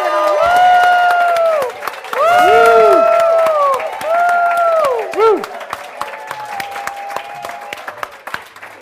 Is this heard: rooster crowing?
no